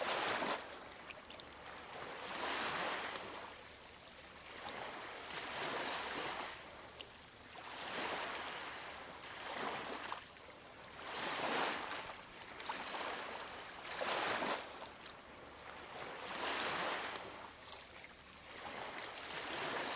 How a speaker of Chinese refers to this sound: 现在，温柔地将注意力带到海浪上来，观察它看起来是什么样的，你听到了怎样的声音？